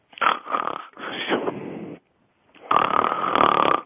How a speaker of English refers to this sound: Listen to me yawning tonight.